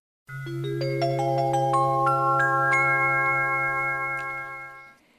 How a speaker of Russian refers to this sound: Тихий звон колокольчика прервал их разговор.